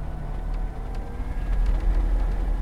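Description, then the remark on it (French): A quiet Velis Electro electric airplane, built in Slovenia and powered by two batteries, taking off: a soft, steady low rumble with a faint whir that swells slightly toward the end, with a few light ticks and no voices. “Même le décollage est plutôt calme.”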